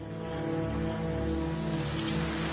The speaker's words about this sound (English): It's dark and raining.